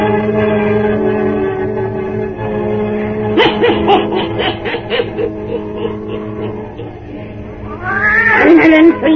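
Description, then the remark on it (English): Satan, the wise black cat of old Nancy, the Witch of Salem, meows loudly and insistently, a drawn-out yowl rising and falling over a steady low background, ending in a sharper caterwauling cry. “Weird, blood-chilling tales told by old Nancy, the Witch of Salem, and Satan, her wise black cat.”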